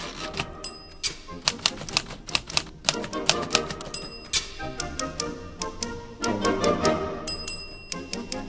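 Rapid clacking of a vintage typewriter, keys striking in quick bursts with occasional bright bell dings, set against a lively orchestral backing, close and clear with no talking.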